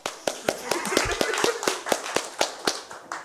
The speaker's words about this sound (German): deswegen, also auch Applaus.